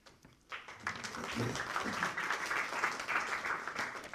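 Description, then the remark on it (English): Audience applause at a meeting starts abruptly after a brief quiet moment as a speaker stands up to address the group, then holds as a steady, dense wash of many hands clapping, moderately loud, with a few voices faintly mixed in. “I started the previous two rounds of applause because I figured that when I stood up, then people might applaud. I'm delighted they did.”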